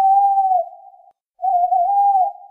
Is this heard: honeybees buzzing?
no